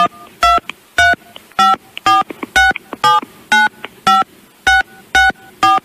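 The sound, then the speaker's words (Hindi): A rapid series of about a dozen loud keypad beeps as a 16-digit credit card number is punched into a mobile phone, each tone short and evenly spaced, with no voices. “एक काम करिए, क्रेडिट कार्ड से अपने 16 अंकों का नंबर डाल दीजिए मोबाइल से।”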